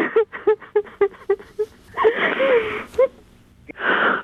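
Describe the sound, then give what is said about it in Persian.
A woman sobs in a quick series of short, catching gasps, then breaks into a wavering, drawn-out wail with heavy breathy exhales, ending in another ragged breath. “باش گریه نکن. چرا گریه نکنی؟”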